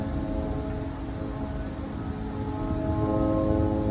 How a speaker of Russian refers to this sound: Предположительно, звук БПЛА Гербера, который удалось заснять в ночь на 26 мая.